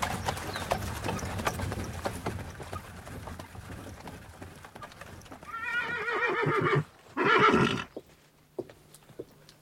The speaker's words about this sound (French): Voici votre voiture, Excellence, avec 2 solides chevaux de poste.